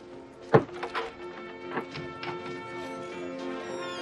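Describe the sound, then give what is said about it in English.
Theater doors thud open heavily near the start, followed by a few softer knocks and clicks, all over a steady, humming tonal background that continues to the end. “Now the theater doors open and Klaus's little nephew, Werner, emerges.”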